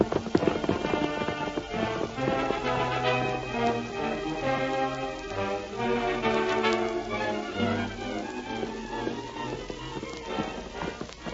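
Rhythmic hoofbeats of the horse Silver clatter steadily at a gallop, fairly loud, mixed with a full orchestral music bed throughout; no one speaks.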